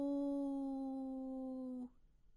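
A single long, steady howl held at one pitch for almost two seconds, then cut off sharply, clear and like a human voice imitating a wolf's howl; a wolf howling from afar.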